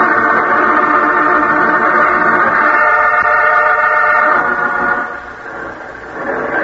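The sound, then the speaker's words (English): An approaching truck loaded with one-gallon corn syrup cans roars steadily, its loud engine drone carrying a harsh, horn-like tone over a low rumble, easing off briefly near the end before swelling again. “Comes the truck, boy. Don't let it get by.”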